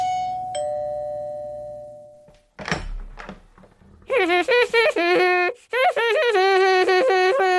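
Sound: doorbell ringing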